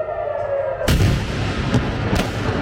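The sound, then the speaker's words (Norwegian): Explosions from missile strikes in Israel and Iran: a loud, booming blast breaks through a faint steady hum, then two more sharp impacts follow amid a continuous, echoing rumble. “Og Israel og Iran har holdt frem med å angripe hverandre gjennom natta, og det har vært eksplosjoner flere steder i begge landene.”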